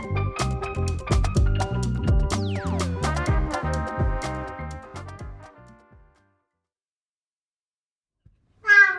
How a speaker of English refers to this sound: Oh, my gosh, your cat really talks. Yeah. I don't know. What's the cat's name? Kish Kish. Kish Kish. Kish Kish got a lot to say. Yeah, it does. It's like, enough of this. Come feed me.